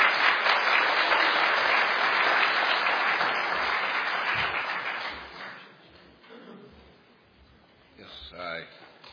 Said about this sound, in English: We would just like to welcome him to the podium this morning. Would you give him a big hand clap? Thank you.